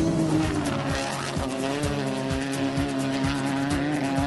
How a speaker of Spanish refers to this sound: Motores a pleno en Nacional Río Grande.